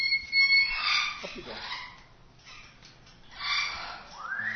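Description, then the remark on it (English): A female pet bird named Bilbo Baggins squawks in several harsh, high-pitched bursts, with a short lull in the middle and a rising screech at the end. “Do you play for the birds very often?”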